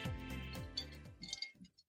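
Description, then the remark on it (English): Ice cubes clink against the sides of a glass of rosé wine in a quick cluster of bright taps, swirling for a moment before fading out. “I'm trying to see if you can like hear my ice I can cubes. Hear it. You've got ice cubes in your rosé.”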